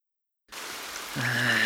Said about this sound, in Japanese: けれど、海へ向かう途中から雨になり、それはやがて叩きつけるような激しいものになっていった。